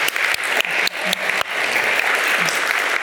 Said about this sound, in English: You've heard four compelling cases. In fact, I'd like to ask for another round of applause for the collective effort.